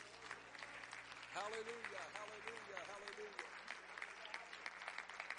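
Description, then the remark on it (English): A large audience at a church service claps together in sustained, dense applause after a prayer, with voices calling out over the clapping partway through. “Would you clap your hands one more time before you're seated?”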